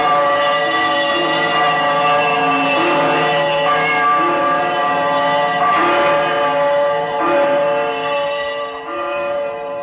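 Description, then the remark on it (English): An old, disused bell hanging in the corner of a room swings and rings loudly, its rich overlapping tones humming continuously as fresh swinging strikes swell every few seconds, with no voices present. “As he turned, his glance happened to rest upon a bell, a disused bell that hung in the corner of the room.”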